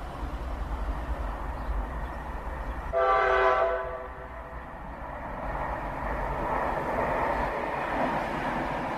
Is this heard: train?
yes